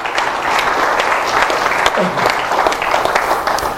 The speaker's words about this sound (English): Give the Lord a hand of applause, huh?